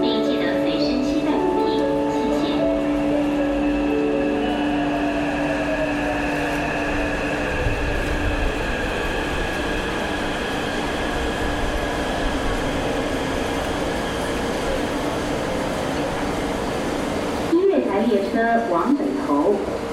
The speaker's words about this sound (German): Mit der U-Bahn sind wir bis zur Endstelle der grünen Linie am südlichen Stadtrand von Taipeh gefahren